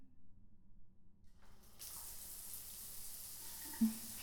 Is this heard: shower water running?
yes